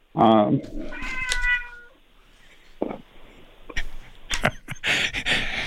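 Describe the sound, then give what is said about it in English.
A cat lets out a loud, drawn-out meow during a live radio broadcast, followed by a second wavering cry, then scattered clicks and shuffling noises with a brief voice in the background. “I think the cat's going to take over and tell the story.”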